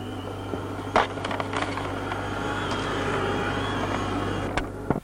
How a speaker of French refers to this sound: Et maintenant, la voilà qui arrive avec un aspirateur. Il n'y a plus qu'à passer l'aspirateur.